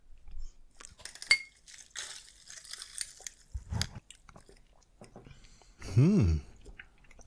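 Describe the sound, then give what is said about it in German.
Glasses clink together once in a toast, a bright chime with a short ringing tail, followed by soft handling and sipping noises and a brief hummed vocal sound. “Gut, dann sage ich mal Teteprost. Prost. Teteprost.”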